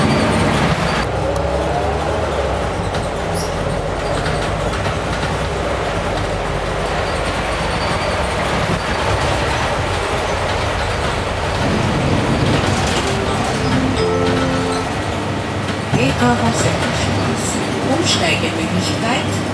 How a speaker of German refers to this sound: Der Bus kommt aber schon wieder spät. Ah, da ist er.